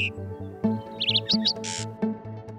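A few quick, high bird chirps in short bursts, like sparrows, sit over a steady, rhythmic music bed, followed by a brief airy whoosh. No one speaks.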